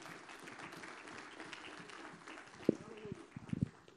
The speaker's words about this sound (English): Let's give the Lord a clap of praise in this house.